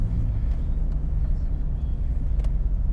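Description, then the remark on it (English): Steady low rumble of a car interior, a dense engine and road drone filling the low end at constant loudness, with a few faint brief clicks above it and no talking. “Also, I don't know if you guys can tell, but I'm on my car today. So I don't know if it sounds different.”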